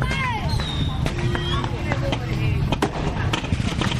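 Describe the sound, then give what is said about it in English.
Fireworks set off in every direction crackle and pop in scattered bursts, with sharp bangs and high whistling streaks rising and falling, over a steady hubbub of a chattering crowd. “unsafe, insane fireworks liberally and in every direction.”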